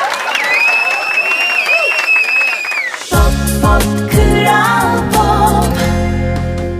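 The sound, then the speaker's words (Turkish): A crowd cheers and applauds for about three seconds on the evening show of Kral Pop Radyo, with high whoops and whistles over dense clapping noise, then an upbeat music track with heavy bass and drums abruptly takes over. “Başka hiçbir işte bu kadar saçma sapan şeyden bahsedip insanların beni alkışlamasını sağlayamazdım.”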